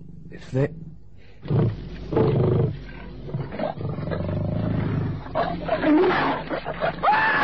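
A lion roars and snarls ferociously as it springs at a man armed with a knife, a string of loud, ragged growling bursts that swell and break off in quick succession, harsh and throaty, like an animal lunging in attack.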